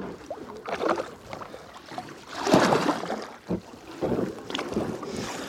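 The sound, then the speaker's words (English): A canoe hull grinds and scrapes over the shallow bed of a short river section between Lough Fiatty and Lough Fian until it gets stuck, in rough, uneven bursts, with splashing and gusts of wind buffeting the microphone. “There's a short section of river between Lough Fiatty and Lough Fian. And you can hear how shallow it is.”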